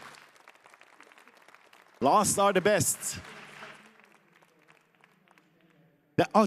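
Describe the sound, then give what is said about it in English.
An audience claps steadily in a soft patter to welcome a speaker, fading lower as it goes on, while a man speaks loudly into a microphone over it, twice breaking in. “Please give a welcome applause.”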